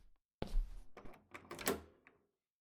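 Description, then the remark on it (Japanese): A bedroom door opens: a solid thunk followed by a quick series of latch and handle clicks and a soft creak, lasting about two seconds with no voices. “こっちの扉、寝室なの。”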